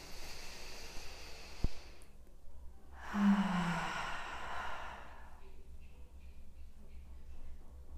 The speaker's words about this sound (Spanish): Y me voy a invitar a hacer una respiración profunda.